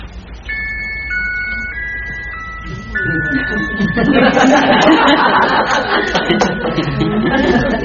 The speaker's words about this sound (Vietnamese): Tiếng chuông dễ thương.